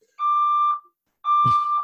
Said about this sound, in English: Hang on, let me see what's happening. So yeah, just a fire alarm. My apartment may be on fire. I'm not entirely sure. So no idea when this is going to finish.